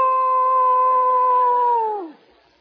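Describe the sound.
A single long wolf howl holds a steady, clear pitch for about two seconds, then slides downward and fades out, with no talking or other sounds.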